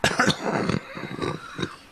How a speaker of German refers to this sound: Das denke ich jedes Mal, wenn ich so ein von der Erkältung so einen Husten über habe und dann nicht so richtig Luft kriege. Ein Huster habe ich noch.